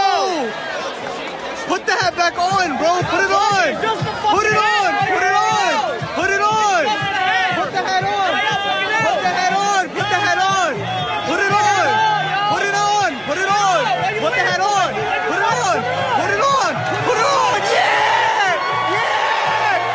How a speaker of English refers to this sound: Maybe the biggest cheer at Yankee Stadium this year. And it's the Mets and the Yankees.